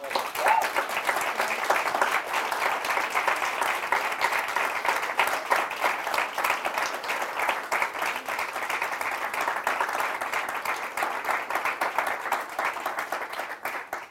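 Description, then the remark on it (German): Sustained applause from a sizable audience honoring the pastors of Quelltor, a dense wash of many hands clapping at steady loudness for the full stretch, with no pause or voices standing out above it. “einen großen Applaus geben und wirklich die Ehre geben, die ihnen gebührt, als wirklich tolle Pastoren von Quelltor, oder?”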